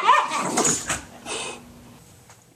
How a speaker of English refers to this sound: Here's another sound from my morning. Dog play or fighting.